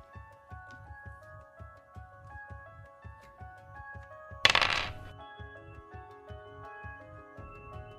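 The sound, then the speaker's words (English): Six-sided dice rolled on a table for a strength check in a tabletop game: a sharp clatter of small hard objects landing, a brief rattling burst that fades within half a second, over quiet background music with a steady low beat. “so you're gonna roll strength, but because you have that, you can roll an extra dice.”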